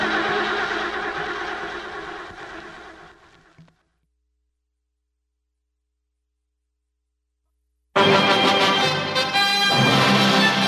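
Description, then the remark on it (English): The president's car engine sputters and labors for a few seconds, then dies away into silence as the car runs out of gas; after a pause, a different loud, dense sound abruptly starts. “Looks like the president's car is out of gas.”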